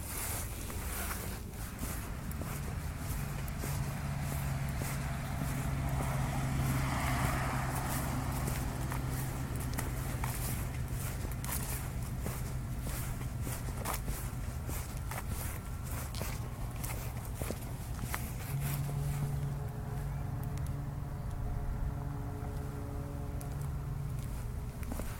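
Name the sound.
footsteps walking outdoors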